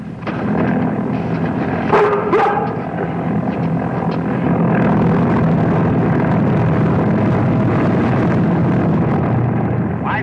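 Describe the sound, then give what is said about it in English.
A small crop-dusting propeller airplane buzzes low overhead, going over to the Brockways to dust their cabbage field. It drones loudly and steadily throughout, its rough engine buzz holding a constant low roar, with a brief sharper burst of sound early on. “He's buzzing us. He's going over to the Brockways to dust their cabbage field.”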